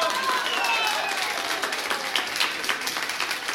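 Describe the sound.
Applause from an audience, a dense crackle of many hands clapping at once, steady and fairly loud throughout, with a few faint voices mixed in.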